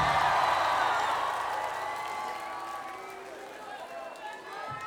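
A concert crowd claps and cheers in a loud, dense wash of noise with scattered shouts and whoops, gradually easing off over a few seconds.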